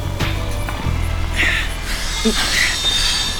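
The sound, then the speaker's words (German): A saw blade screeching on metal as someone cuts into a train's freight wagon from outside: shrill, intermittent squeals rise over a steady low rumble and grinding hiss, loud, with no one talking. “Eindeutig das schrille Kreischen eines Sägeblatts auf Metall.”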